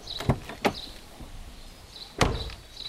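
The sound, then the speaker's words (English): A car's rear doors shut with dull thuds: two quick closes close together, then a pause and a louder, heavier slam, with no talking. “The rear doors make this sound.”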